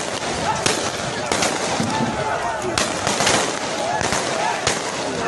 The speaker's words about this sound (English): And as the sun started setting, security forces in uniform, they opened fire on protesters.